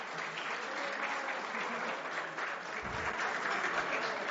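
An audience claps steadily throughout, a dense, even wash of many hands at a fairly constant loudness, with no voices standing out.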